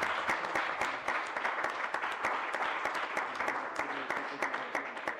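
A group claps steadily for several seconds, a dense, even patter of many hands at a fairly constant moderate loudness, with no voices standing out.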